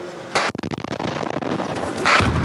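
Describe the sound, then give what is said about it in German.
A loud blast from a Russian drone strike in Kharkiv, next to where people are playing football after work, erupts with a broad burst of noise, followed by a sharp crackling of debris and a second roaring surge as the explosion echoes. “Während sie nach Feierabend Fußball spielen, schlägt nebenan eine russische Drohne ein.”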